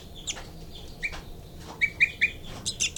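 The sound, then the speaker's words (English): A young bird's begging calls: a string of thin, high-pitched chirps repeating at an uneven pace, bunching into quicker, louder bursts toward the end, with no talking. “Baby begging.”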